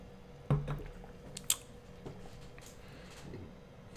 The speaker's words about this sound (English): Hold on, let me take a sip of my drink.